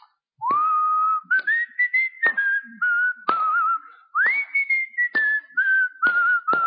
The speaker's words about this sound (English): And I'll be going through the aisles and people will be looking at me and I'm whistling the great hymns that I know. I'm whistling those encouraging songs that we sing.